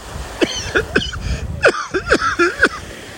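cough

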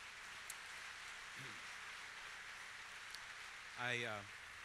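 audience applause

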